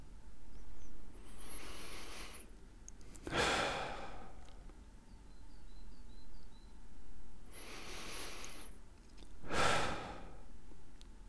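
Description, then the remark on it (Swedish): Slow, deep breaths taken to relax: two long inhales, each followed by a broad, relaxed exhale, evenly paced with quiet pauses between and no talking. “Bara ta de här tre djupa andetagen.”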